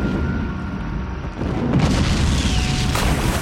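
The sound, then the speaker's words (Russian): A shell explosion hits a boat, puncturing its air chamber so that air escapes: after a steady low rumble, a heavy boom bursts out and leaves a dense, roaring wash of noise that carries on to the end, with no voices. “В лодку попали! Пробили баллон, и воздух выходит!”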